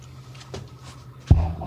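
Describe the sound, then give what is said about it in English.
A steady low hum with a faint click, then a solid thud as a beer fridge door swings shut, followed by a brief rattle. “All kinds of things to choose from in that beer fridge.”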